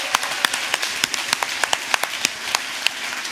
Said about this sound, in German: Heute Geburtstag. Unser Applaus.